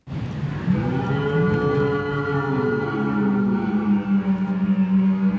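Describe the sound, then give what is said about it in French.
A stag deer bellows during the rut in a long, deep, moaning roar lasting several seconds, loud, with a rough, groaning tone that rises and falls before breaking into shorter grunts at the end. “Le brame du cerf l'est tout autant et mon écran est toujours connecté.”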